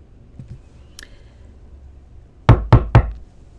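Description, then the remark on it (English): Three firm knocks on a wooden front door in a quick, even rhythm, loud, with a faint light scrape a moment earlier. “She knows that knock brings loyal support to the Patriots' cause, but like any fight for sovereignty, even such a sound of allegiance courts potential threat.”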